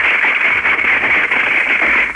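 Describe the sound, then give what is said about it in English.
A radio call-in listener rattles a junk drawer holding pictures, old birthday cards, books, pens, pencils, chapstick, batteries, old makeup and a pacifier: a dense, continuous jangle heard over a thin, band-limited phone line, staying loud and steady with no voices. “Let's hear your junk drawer. Rattle it around.”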